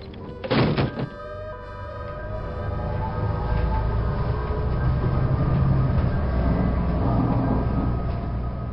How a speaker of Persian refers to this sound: اتوبوس رفت.